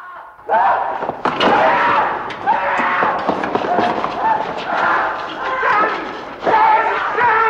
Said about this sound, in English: He throws himself onto the bars of the corridor gate.